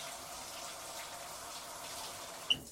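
A steady hiss of a shower spraying water onto a person seated on a stool before a shampoo and bath, continuous and even throughout, with a brief sharp splash or clatter near the end.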